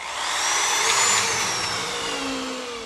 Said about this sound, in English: And he drills screws into new planks in the deck he's replacing behind his house to relieve the stress of a life plan gone awry.